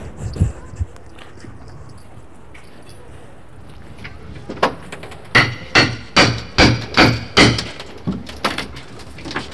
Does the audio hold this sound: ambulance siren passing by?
no